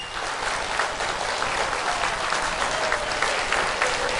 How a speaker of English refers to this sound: So everyone is applauding, hoping Grandmaster do not return at the age of 66.